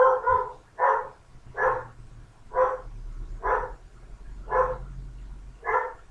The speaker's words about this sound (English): I'm afraid my dogs in the background have decided that they want to bark at somebody outside. You'll have to excuse this. Have four border collies, and they're all young girls.